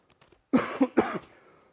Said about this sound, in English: I'm actually feeling much better tonight than I have for several days, but for some reason, I sound worse, and so if I have to cough, if you'll just mute me, just don't forget to put me back on back there, okay?